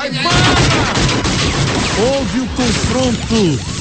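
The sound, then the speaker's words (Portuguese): A loud, chaotic burst of gunfire with rapid overlapping shots during a police shootout on Rua Montevidéu, with police officers being met with gunfire, while voices shout and cry out over the noise throughout. “chegou lá na rua Montevidéu, houve o confronto, os policiais foram recepcionados a tiros.”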